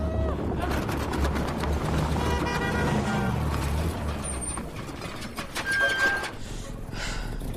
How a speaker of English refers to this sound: The tire blows out. Marion braces herself as Jamie struggles to maintain control of the car. They pull over to the side of the road.